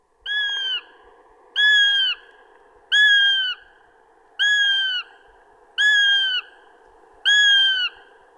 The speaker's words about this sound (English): So here we are, I'm going to play the begging call of a young goshawk to see if there's any goshawks sitting not far away in a tree watching us.